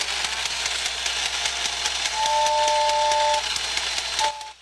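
A toy train runs with a steady chuffing hiss and rapid rhythmic clicking, then gives a shrill two-tone whistle midway before stopping abruptly. No one speaks.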